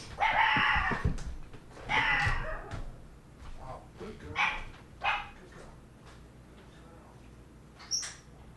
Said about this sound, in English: Our dog has just learned to bark, and now no one was at the door. But that's good that she's barking or something.